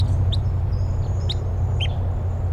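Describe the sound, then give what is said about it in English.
Wild type 3 crossbills call overhead in flight, giving three short, sharp, high chip notes spaced about a second apart over a steady low rumble of background noise. “I hear type 3 crossbills, wild ones flying over.”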